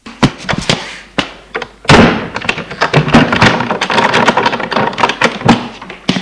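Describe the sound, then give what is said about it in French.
The door of a fifth-floor apartment is pushed shut with a solid thud after someone comes in with keys, preceded by a few light knocks and clicks of handling, then followed by rustling and scattered small bumps. “Une fois que la porte est fermée, je crie « Maman, je suis là !»”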